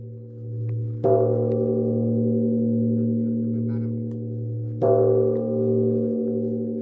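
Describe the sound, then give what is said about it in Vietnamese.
A temple bell on Trường Sa island, amid the open sea, is struck twice, several seconds apart. Each deep, resonant strike rings out and hums on in a long, slowly fading tone over a steady low drone. “Tiếng chuông chùa ngân nga giữa mênh mang sóng nước biển khơi gợi trong lòng khách đất liền ra thăm đảo xa một cảm giác thân thuộc.”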